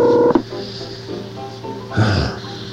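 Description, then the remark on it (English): A short touch-tone dialing beep sounds clearly at the start as a phone call is placed, cut off by a sharp click, followed by hissy telephone line noise and a brief louder crackle near the end. “Calling Mike Juhas on The Voice of Long Island”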